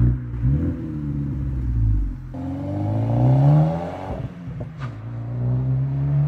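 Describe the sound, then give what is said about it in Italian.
A car engine, an Alfa Romeo GT whose exhaust sounded like a Fiat 124's, revs repeatedly through its exhaust as it speeds off with headlights off toward Vigatto, its throaty drone rising and falling in pitch over several seconds, loud, with a brief clatter near the end and no voices. “Poi aggiunge un particolare: il rumore della marmitta sembrava quello di una Fiat 124.”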